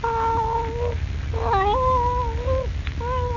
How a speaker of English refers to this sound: Leaping lizards. It's the cat.